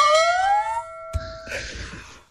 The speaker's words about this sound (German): Oh, nee, da kam die Glocke direkt.